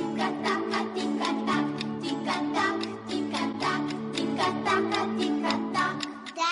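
A clock ticks in a steady, even rhythm throughout, its crisp ticks layered over sustained, droning musical tones at a moderate, consistent level.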